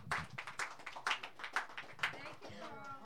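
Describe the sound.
An audience claps in a steady rhythm, sharp strokes landing about twice a second, moderately loud, while a voice murmurs underneath toward the end.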